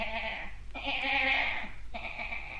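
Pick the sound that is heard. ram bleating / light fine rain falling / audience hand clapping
ram bleating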